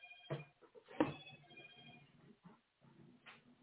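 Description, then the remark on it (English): A mobile phone rings with a steady electronic tone, fairly quiet, broken by a few sharp clicks and knocks and some faint rustling. No one speaks. “I got to turn my phone off for a minute.”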